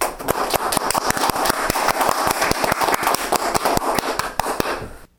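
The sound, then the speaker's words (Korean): An audience applauds steadily for about five seconds, a dense wash of clapping with sharper individual claps popping out, then it cuts off abruptly. No one speaks. “감사합니다. 우리 박수를.”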